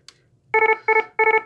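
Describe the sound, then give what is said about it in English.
An electronic medical alarm attention tone, meant to announce an alarm about a problem related to a patient's medication, plays three short bursts, each a quick cluster of stacked, harmonic beeps in a bright mid-high pitch, loud and alone after a brief click. “What you might do is you would announce an alarm by using something like this.”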